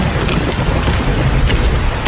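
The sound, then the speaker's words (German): Heavy rain pours down steadily, a dense, loud wash of drops drumming on hard surfaces, with no voices and no break in the downpour. “Es regnet ja wirklich voll.”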